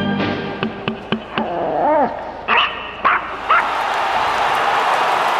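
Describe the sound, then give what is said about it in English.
A pug lets out a whiny, rising-and-falling yelp followed by three short, gruff woofs, over a steady buzzing hiss that grows louder, with a few sharp clicks at the start. “By Jove, that's one of the most racist woofs I've ever heard.”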